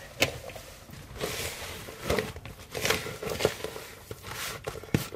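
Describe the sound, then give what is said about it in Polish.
Butter dough being kneaded by hand: soft, irregular squishing and slapping with occasional sharper pats and crinkly textures, moderately loud and continuous, with no talking. “I zagniatamy, ja zdejmę pierścionek, tak.”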